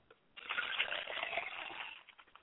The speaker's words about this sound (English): So we pour libations to the east and we say Ashe. We pour libations to the west and we say Ashe.